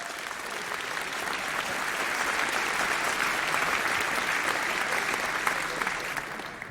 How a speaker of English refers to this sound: Please welcome him with a great round of applause.